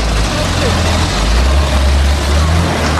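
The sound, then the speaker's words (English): A heavy demolition machine, the Muncher, tears into a roof, its engine thrashed at full tilt at high revs: a loud, steady low-pitched rumble with a gritty mechanical roar layered over it, sustained without a break. “They're completely thrashing that engine.”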